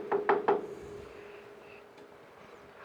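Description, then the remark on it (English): A courier knocks three quick, firm times on the wooden door of Bolton Manor near Opara on a warm spring day, evenly spaced within half a second, followed by quiet with faint background hum. “He knocks at the door and is greeted by a servant.”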